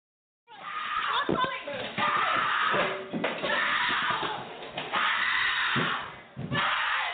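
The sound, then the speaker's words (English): A recorded domestic violence attack: loud, frantic screaming and shouting from several voices, a child's among them, continuing almost without pause, with sharp bangs and scuffling mixed in, over a muffled, tinny recording. “What you heard was an actual recorded incident of my abuser attacking me and my daughter witnessing the attack.”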